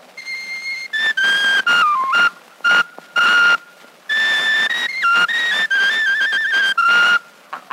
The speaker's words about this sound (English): Whistle me another nice little bit of a real fine old Irish tune